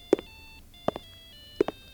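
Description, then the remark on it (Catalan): A mobile phone ringtone plays at a slight distance while a body is being prepared for burial, steady electronic tones punctuated by three soft beats at regular intervals, with no voices present. “Diria que és el timbre d'un telèfon mòbil.”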